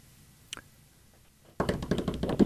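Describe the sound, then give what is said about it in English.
Over a phone line into a radio call-in show, a caller from Houma seems to be jogging, out for a run: after a quiet stretch and a single faint click, loud muffled rustling and uneven rhythmic thumps fill the line, with no one speaking. “Sounds like he was jogging.”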